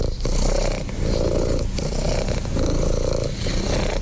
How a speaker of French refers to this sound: Alors, on a trouvé ça sur Internet, sur YouTube. Détendez-vous avec Rookie. C'est une heure de ronronnement continu enregistré par Jean-Yves Gaucher. C'est un vétérinaire.